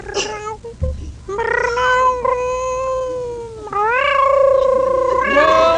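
A contestant in a cat-meowing contest imitates a cat's meow: a long, drawn-out, wavering yowl held for several seconds, loud, with the pitch swooping upward near the end like a singing caterwaul.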